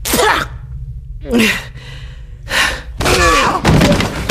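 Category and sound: impact, punch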